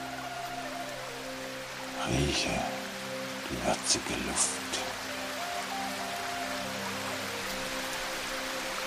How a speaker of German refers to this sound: Ich höre einen Bach plätschern und einen kleinen Wasserfall.